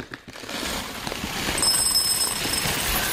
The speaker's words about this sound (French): Ça, c'est des grains de café. Non. Sac de vis. Non. Des céréales. Oui. Dans un bol.